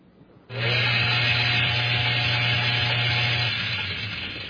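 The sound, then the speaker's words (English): A blender switches on abruptly and runs with a steady, loud motor whir and a low droning hum, holding constant for about four seconds with no one speaking. “A frog in a blender. Now, what happens if I turn the switch on?”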